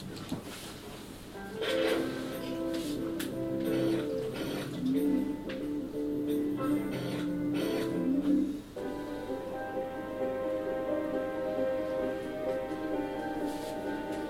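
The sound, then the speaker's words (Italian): A large 3D printer arm used to build houses runs steadily while spraying resin, a layered motorized hum and whine with faint clicking, shifting to a smoother, higher drone about two-thirds of the way through. “Questo è un braccio, una stampante 3D di dimensioni piuttosto grosse, che spruzza una resina.”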